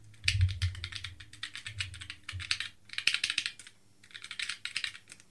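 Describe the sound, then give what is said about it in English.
Rapid clacking of a mechanical keyboard being typed on, crisp, in quick bursts with a brief pause before the keystrokes resume; no one speaks. “Because ZSA makes mechanical keyboards, expensive, fancy keyboards that maybe you don't need, but that if you're a certain type of person, like me, you might really want.”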